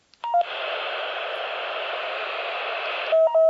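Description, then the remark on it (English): A couple of short electronic tones as a radio on an FM channel has its squelch turned off, then a steady rush of standard FM static for about three seconds, closed off by another pair of quick beeps. Fairly loud, no voices. “Okay, so you heard it, it makes some tones, and when the squelch is opened up, then you could hear the FM, standard FM noise.”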